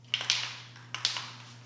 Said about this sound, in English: Simmons uses stencils to spray paint jumbled shapes and lines onto a canvas